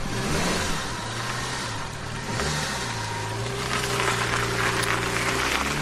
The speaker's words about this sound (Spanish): Nos cogemos el coche, si antes no nos cargamos el cable del acelerador, de la leña que le estamos dando, para desplazarnos hasta Cártama.